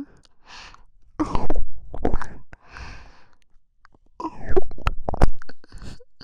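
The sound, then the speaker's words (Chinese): Wet mouth sounds of someone licking the listener's other ear come in two bursts of slurps, smacks and sharp clicks with a quieter stretch between, with no talking. “还是我来帮你舔吧，把另一只耳朵凑过来”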